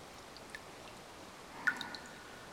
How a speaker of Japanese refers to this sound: 清流の音が体に染みていくはずです。澄み切った水音があなたを癒してくれる。